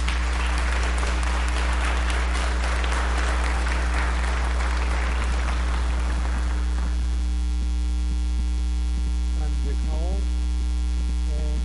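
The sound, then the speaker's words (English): A room full of people claps for the music department's performance in a sustained burst of applause that gradually thins out and fades after several seconds, leaving a steady electrical hum with faint voices beneath it. “I just like to say, wow, for our music department, everyone here that enjoyed that music, how about giving them a good round of applause?”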